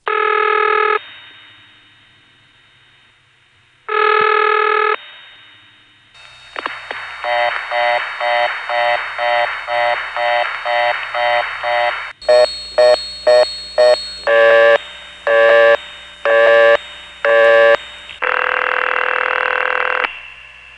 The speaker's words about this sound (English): The N1 family of carrier systems all have a similar sound, but only some of them make a whooshing noise that decays away at the end of each ring or busy tone.